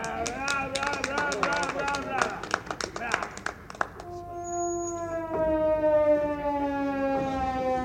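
A pipe is played badly: shaky, warbling off-key notes over some clatter, then one long droning tone that sags flat in pitch, loud, like a wailing siren.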